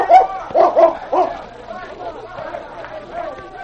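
dog barking and yipping

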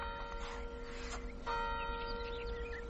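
clock striking twelve

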